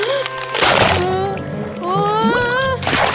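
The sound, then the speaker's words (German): Two short, noisy bursts of ice cracking and breaking into water, with splashes, one early and one at the end, over a steady bed of gliding, tuneful music. The ice breaks exactly where Findus had just been standing. “Denn jetzt bricht das Eis genau dort, wo Findus eben noch gestanden hat.”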